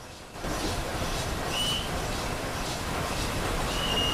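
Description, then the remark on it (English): A steam locomotive emerging from the 480-yard Bewdley Tunnel on an upward gradient of 1 in 100 into daylight between steep vegetated banks, in billowing clouds of white steam and smoke: a dense, steady roar of rolling train noise rises after a brief quiet start, with faint metallic squeals. No voices. “A front-on view of the locomotive exiting the tunnel in great billowing clouds of white steam and smoke.”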